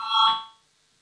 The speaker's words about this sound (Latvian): Lūdzu zvanu, balsosim par 10. Finanšu ministra Reira priekšlikumu, lūdzu balsosim.